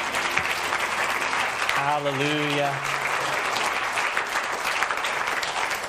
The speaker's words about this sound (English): Can we give him a hand clap of praise tonight?